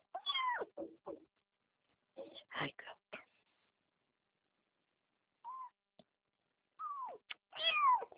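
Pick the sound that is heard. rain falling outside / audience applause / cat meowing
cat meowing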